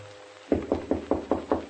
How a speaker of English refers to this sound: And then, at 3 o'clock, a knock on my door.